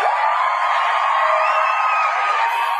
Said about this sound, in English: Well, I'm going to give myself the round of applause because I don't get to hear it enough on this show.